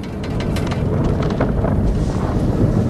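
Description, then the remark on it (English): Strong wind roars steadily, a deep, continuous rumbling whoosh that stays loud throughout, with faint gusty hiss on top and no voices. “It's dark and windy.”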